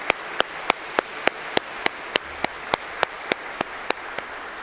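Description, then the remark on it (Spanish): Steady rhythmic clapping for the fathers at a church service: about sixteen sharp, evenly spaced claps at a brisk, regular pace over a faint background hush, with no voices. “Un aplauso fuerte por nuestros papás.”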